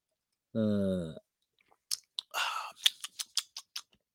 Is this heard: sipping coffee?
yes